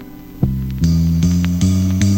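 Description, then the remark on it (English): The full 27-note string bass section of a Krumar Orchestrator synthesizer plays a steady run of deep, sustained notes, about one every 0.4 seconds, each swelling in with a soft attack after a brief low hum. No one speaks. “The orchestrator features a full 27-note string bass section.”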